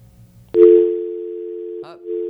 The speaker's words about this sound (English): Sounds like a dial tone. All right, so hopefully she'll call back.